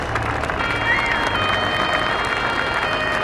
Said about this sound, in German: Ein Applaus für unsere fünf historischen Dreier.